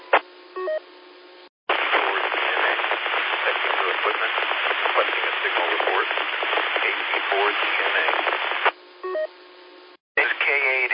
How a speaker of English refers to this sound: And that was a very, very white noise signal. Couldn't hear your voice just barely.